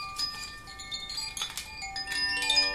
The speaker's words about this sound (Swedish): Då har jag ett litet vindspel, förstår du. Det kan ju göra sig bra i radio.